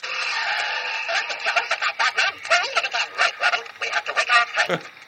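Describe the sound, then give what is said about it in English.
A warped, failing sound from an old alarm clock whose batteries are running down: a high, buzzy, wobbling tone that starts steady, then breaks into choppy, uneven bursts for about five seconds, fairly loud throughout. “Then what would happen, unfortunately, is it would get old, or the batteries would get old, and then it would start to sound like this.”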